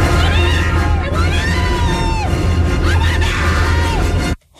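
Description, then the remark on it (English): A crowd of people screams and shrieks together, high wavering cries rising and falling over a loud, steady roar of voices for about four seconds before cutting off abruptly. “Imagine going to an attraction that would lead you to scream like this.”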